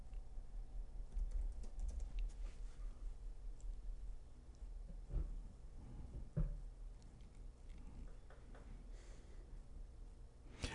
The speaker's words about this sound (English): I'm just writing this down for now. I'm getting my thoughts out here on paper.